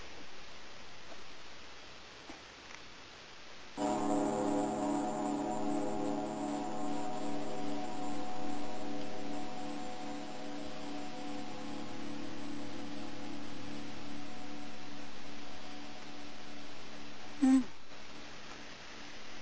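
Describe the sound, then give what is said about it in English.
A single gong strike blooms into a long, shimmering ring of layered tones that slowly fades over many seconds, with a brief soft knock near the end and a faint hiss underneath. “It sounded like a grandfather clock. It's a gong.”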